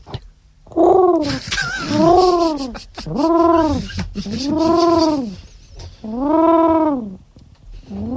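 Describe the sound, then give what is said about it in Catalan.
A person imitates a pigeon's cooing, producing five throaty, rolling coos in a steady rhythm with short pauses between them, loud and clear with no other talking. “No saben imitar el colom. Tu sí que el fas bé, com es fa el colom?”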